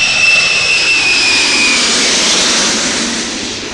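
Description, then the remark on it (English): A jet transport plane roars in to land at Tan Son Nhut or Da Nang in Vietnam, its loud, steady engine whine dominated by piercing high-pitched tones that fade slightly as it passes. “For some, when a jet transport touches down at Tan Son Nhut or Da Nang.”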